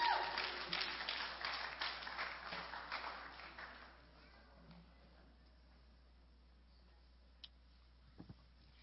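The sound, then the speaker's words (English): A burst of crowd applause for a church worship team, dense and steady at first, then thinning and fading out within about four seconds, leaving near silence broken by a couple of faint clicks. “Would you give our worship team a round of applause, would you?”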